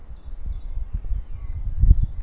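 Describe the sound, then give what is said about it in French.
A low, steady rumble of car traffic runs through the background outdoors in spring, swelling slightly toward the end, with a thin continuous insect-like hiss above it. No one speaks. “Bon, j'entends quand même aussi des voitures.”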